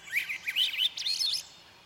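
Birds chirp in a quick, warbling run of bright, high notes, clear, lasting about a second and a half before trailing off; no voices.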